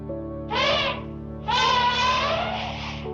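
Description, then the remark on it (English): An elephant trumpets twice: a short blaring call, then a longer, louder one that wavers and trails off. Both are brassy and high-pitched, with a steady low hum underneath. “Did you guess an elephant?”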